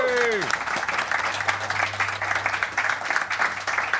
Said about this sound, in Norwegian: Gi en applaus til Asbjørn Slettemark, folkens.